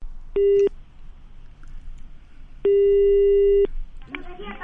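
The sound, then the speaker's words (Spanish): A telephone line's connecting tone: a short steady electronic beep, then a longer one about two seconds later, over faint line hiss, with a voice starting to speak right at the end. “Vamos con la llamada,”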